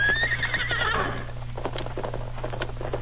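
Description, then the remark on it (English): A horse carrying a double load whinnies with a high, wavering neigh that falls in pitch over about a second, followed by irregular hoof clops and snorts over a steady low hum. “Horse carry double load. Must give him rest.”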